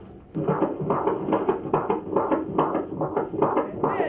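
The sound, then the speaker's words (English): A fetal heartbeat on a doppler monitor during a prenatal checkup, with the woman lying on her left side on the exam table, a rapid, steady whooshing pulse of about two beats per second, loud, with a muffled, swishing texture and no talking. “We're going to listen to the heartbeat now.”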